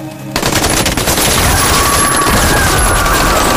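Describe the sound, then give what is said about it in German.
Heavy automatic gunfire erupts after a brief moment of quiet, a loud, dense stream of rapid overlapping shots that continues without pause to the end, as a small hut is surrounded and shot into through its windows and mud walls. “Einfach das Häuschen umstellt und durch die Fenster und die Lehmwände hineingeschossen.”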